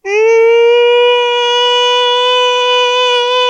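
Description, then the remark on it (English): A loud, steady siren-like wail holds one high, slightly rising tone for a few seconds, unbroken, with no talking over it. “And then I hear a siren going off.”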